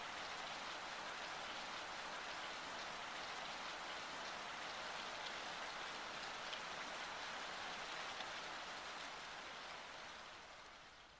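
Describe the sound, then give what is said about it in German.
Steady rain falls in a soft, continuous hiss with a fine patter of drops, holding even throughout before easing slightly at the very end. No voices are heard. “Der Regen nährt den Baum und der Baum beginnt zu wachsen.”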